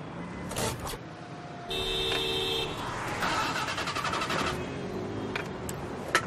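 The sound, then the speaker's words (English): A car engine cranks over and over, a whirring starter with a rapid rhythmic chug that struggles without catching, steady for several seconds before dying away. “Take a look at the engine.”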